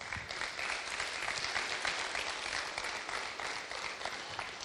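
Steady applause from a crowd, dense and sustained throughout with no one speaking over it, clapping for a daughter's upcoming baptism.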